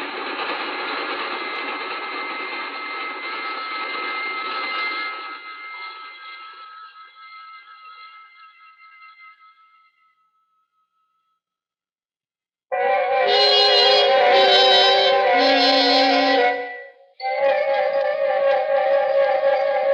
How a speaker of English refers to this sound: We sat there for a long, breathless moment as the train roared off into the night, leaving only their singing rails to mark its passing.